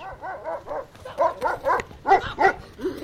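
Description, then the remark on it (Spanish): Dogs bark in a rapid, overlapping series of about a dozen short, mid-pitched yaps and woofs, fairly loud and continuous for a few seconds with no talking. “Déjeme pasar, chocos. La próxima les traigo doggy.”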